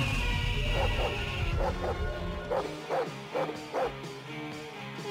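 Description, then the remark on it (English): Kitten sounds marking hour two of The Sinner and the Saint on radio station 1080 The Fan: a string of about seven short, high, whiny mews, coming in quick pairs and singles over a low rumbling bed that fades out partway through. “All right, the kitten sounds means that it's hour two of The Sinner and the Saint.”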